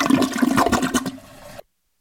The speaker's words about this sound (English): How many times am I going to cut off a toilet sound only to hear another one? What is going on with that toilet? I think that thing needs a plumber.